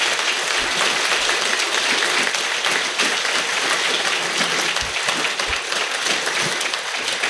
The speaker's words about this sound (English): Please give her the round of applause she so rightfully deserves.